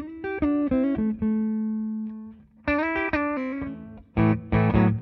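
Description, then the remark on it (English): A clean electric guitar plays through a Deluxe Reverb amp with the bass set fairly high and the treble down around 4, giving a warm, bass-heavy and dark tone. It picks a few notes and a ringing chord that sustains, then a strummed phrase and choppy chords. No one speaks. “Like right now, we're on a deluxe reverb, and the bass is up fairly high. The treble's down like 4.”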